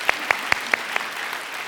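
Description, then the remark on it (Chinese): About five sharp, evenly spaced claps of applause for members of River of Life church ring out, slowing and growing softer, then give way to a steady low murmur of background noise. “哇，我们生命河的弟兄姐妹真是太棒了，太棒了，给他们鼓掌一下。”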